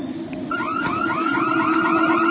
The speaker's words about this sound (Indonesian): Suara alarm mobil masih terdengar bersaut-sautan. Hingga tak lama, satu persatu alarm mobil itu pun mati.